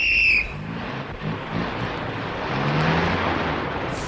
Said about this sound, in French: Après un long circuit dans les sables dorés de la plage, les 7 voitures, suivies de leurs remorques, radiateurs face à l'est, se sont engagées sur la route de Damas.